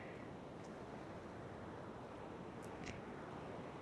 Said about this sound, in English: Well, it's actually fairly temperate in here right now, with the breeze coming in off the ocean through the open doors.